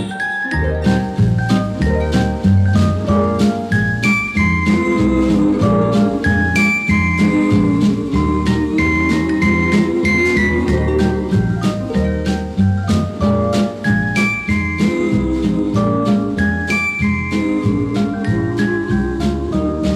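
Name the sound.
sleigh bells jingling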